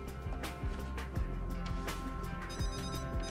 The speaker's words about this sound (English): answers her phone.